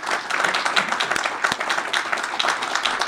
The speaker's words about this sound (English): And it is a pleasure for me to welcome you all here this morning. Give yourselves a big hand.